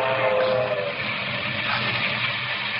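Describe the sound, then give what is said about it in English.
A local steam passenger train speeds through the rocky country of West Texas on a July night in 1931, its fireman shovelling coal into the firebox, a loud, steady roar of wheels and rumbling cars with no pauses, with continuous rattling clatter. “A local passenger train speeds through the rocky country of West Texas.”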